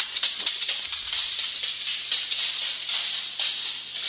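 A small dog's untrimmed claws click and tap on a hard floor as it walks around: a quick, uneven patter of sharp, bright ticks that runs steadily for a few seconds, with no voices.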